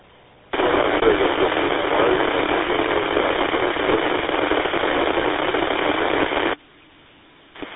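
A burst of radio static and crackle from a radio station coming on the air fills about six seconds, a steady band of hiss with muffled, barely intelligible speech buried in the noise, then cuts off abruptly to near silence.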